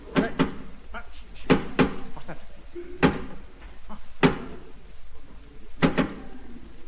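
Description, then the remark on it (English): Sharp knocks on a wooden door in a deliberate pattern of two, one, and then two knocks, separated by short pauses, with faint voices murmuring in the background. “Two, one, and then two knocks. I wonder what it means. It means I want to come in, you twin.”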